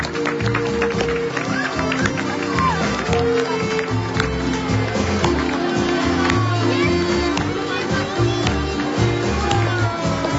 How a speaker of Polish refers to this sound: Bijemy brawo i prosimy, aby balony szły do papieża i śpiewamy.